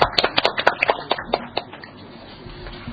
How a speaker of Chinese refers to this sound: 请热烈嘅掌声祝贺刚讲过嘅位。